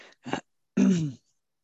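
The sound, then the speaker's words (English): A fairly quiet throat clearing: a couple of short rough bursts followed by a longer, voiced rasp that slides downward, with no talking around it. “I'm sorry, I just have to take a drink here to clear my throat.”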